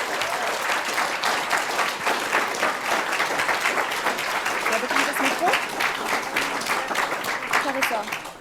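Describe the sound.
A large audience applauds steadily, a dense wash of many hands clapping at once that stays loud and even throughout, with faint crowd voices mixed underneath.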